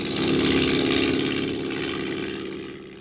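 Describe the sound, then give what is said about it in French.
The engine of a light propeller touring plane belonging to the Dakar aero club drones steadily with a buzzing, pulsing tone, loud, easing slightly as it recedes over a few seconds, with no one speaking. “un avion de tourisme appartenant à l'aéroclub de Dakar a disparu”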